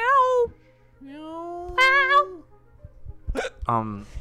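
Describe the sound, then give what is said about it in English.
Several short, drawn-out meows in quick succession, with rising and falling pitch, fairly loud. They sound like human voices imitating cats rather than real animals, as cats at a mock UN General Assembly. “we are taking you to the first UN General Assembly for cats. Meow.”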